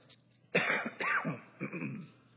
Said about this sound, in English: A little bit of a cough, so I apologize ahead of time, and I will do my best to cover the mic so I don't just blow you out.